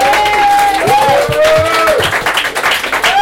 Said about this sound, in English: If you're here, you're going to give yourself a round of applause. And if you're here and you contribute in any shape or form, you're going to give yourself another round of applause. So a bigger round of applause there.